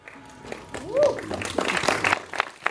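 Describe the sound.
Audience applause at the world premiere of the film The Great Director: a brief rising-and-falling whoop, then a dense patter of many hands clapping that swells and keeps going for a couple of seconds, with some voices mixed in.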